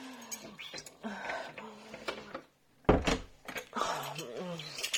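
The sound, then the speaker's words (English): Keys are set down with a single sharp clatter just past the midpoint, preceded by a brief hush and surrounded by murmured voices and breathy vocal sounds. “Let me put my keys first.”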